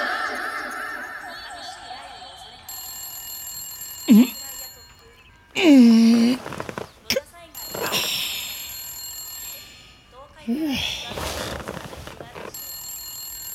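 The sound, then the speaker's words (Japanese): A telephone rings steadily for several seconds, its bright electronic tone continuing in the background while short vocal outbursts and chuckling cut in over it. “事件はいつも一本の電話から始まる。”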